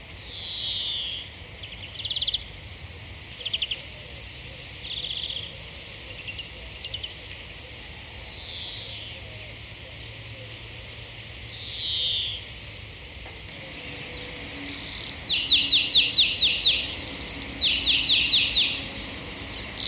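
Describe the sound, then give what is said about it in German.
A European greenfinch sings a canary-like song, mixing quick twittering phrases and slurred whistles with rapid buzzy trills, separated by short pauses. The song stands out clearly over a quiet outdoor background. “Ja, der Grünling ist ja überhaupt ein Vogel, der gerade in den Siedlungen ziemlich häufig ist, sogar mitten in Wien zum Beispiel, hat einen auffälligen kanarienvogelartigen Gesang mit vielen Trillern, Pfiffen und schnellen Zwitscherfolgen.”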